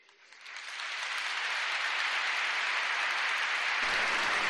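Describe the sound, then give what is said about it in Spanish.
Applause from a large audience in the Cathedral of Valladolid, for the herald of Valladolid's 2022 Holy Week proclamation, swells quickly and holds steady as a dense, continuous wash of clapping, full and sustained and reverberant. “Y la Catedral de Valladolid rompe en aplausos hacia el pregonero de la Semana Santa de Valladolid de 2022”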